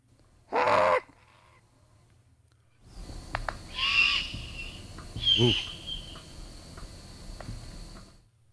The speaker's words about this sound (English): But let's play this juvenile great horned owl